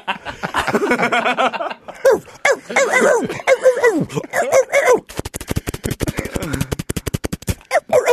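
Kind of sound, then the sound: animal, dogs barking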